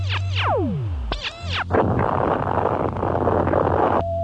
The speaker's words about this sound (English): I just lost all telemetry from Lunar Base. Look, there's been an explosion.